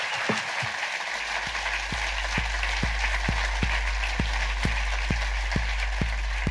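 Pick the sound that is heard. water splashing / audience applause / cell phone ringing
audience applause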